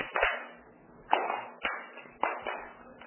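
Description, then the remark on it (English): A crowd claps together in unison, five sharp collective claps at uneven intervals, each a loud burst with a brief ragged tail as the hands don't land perfectly at once. “It sounds like a drum beat. Want it to sound like one clap.”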